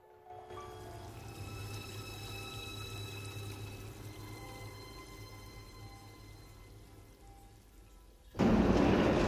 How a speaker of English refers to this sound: She unlocks a heavy door. A surge of water sweeps her off her feet and washes her up against a wall.